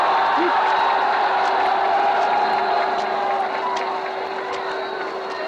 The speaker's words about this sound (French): Je crois que mieux des paroles, l'enthousiasme de la foule vous donnera une idée exacte de ce qu'est aujourd'hui l'enthousiasme du peuple de Paris.